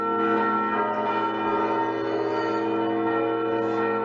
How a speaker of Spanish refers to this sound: Se trata de la celebración de la Jornada Europea del Patrimonio, por lo que habrá toque manual de las campanas de la Catedral a cargo de la Asociación Cultural Campaneiros de Galicia.